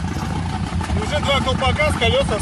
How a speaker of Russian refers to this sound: Внимание на работу выхлопа. Слышите, как выхлоп работает? Потому что... Сел так, что выхлопная булькает, да?